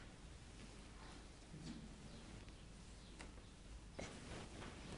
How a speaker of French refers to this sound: Vous entendez la pluie qui tombe.